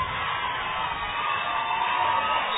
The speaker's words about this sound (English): Both sides of the crowd are excited.